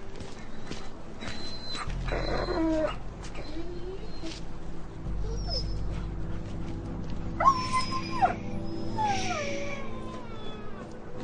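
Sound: injured dog whimpering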